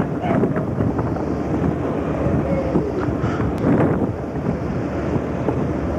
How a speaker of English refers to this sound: And the next scene will be when the sister ship, the Bridgeport, passes us in midstream. There it is, headed toward Chester.